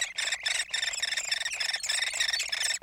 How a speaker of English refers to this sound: That's a hairy woodpecker chick in its nest cavity deep within a dying tree.